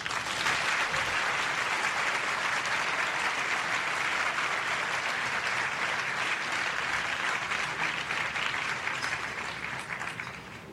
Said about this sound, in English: let's have a big round of applause for all five of our fabulous females.